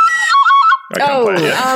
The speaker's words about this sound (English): I went to Ireland. Ooh. I bought this tin whistle. That's pretty cool.